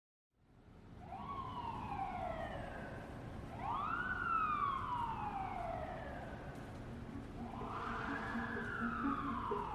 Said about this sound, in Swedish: När ambulansen tar Mona från campingplatsen till sjukhuset